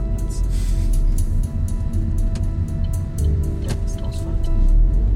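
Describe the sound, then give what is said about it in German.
Steady, loud low rumble of a car driving at speed on a new four-lane motorway heading north towards Grimmen in Vorpommern-Rügen, heard from inside, with constant road and engine drone and a few faint clicks scattered through it. “Im Auto erfahren wir im wahrsten Sinne des Wortes die Modernisierung der Infrastruktur der letzten 35 Jahre.”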